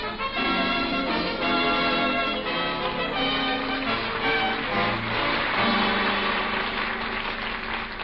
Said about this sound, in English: Hey, who's making all that noise down there with that bell?